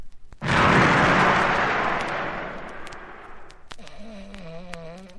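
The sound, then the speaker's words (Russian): A single loud mortar cannon shot, the first gun of a battery, booms out suddenly and rolls away in a long, fading rumble, followed by a faint wavering tone near the end. “Вызвать артиллерию. Мортиры к стрельбе над ухом лентяя товсь. Первое орудие пли.”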